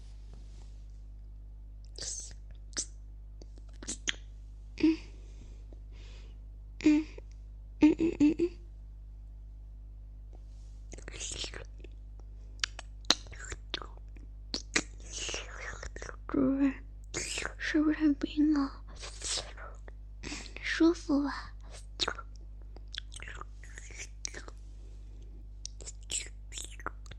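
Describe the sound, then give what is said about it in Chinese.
Wet, crackly sucking and slurping of an ice cube held in the mouth, coming in irregular bursts, with soft whispering in between over a steady low hum. “首先，我会把一块冰块含在嘴里。”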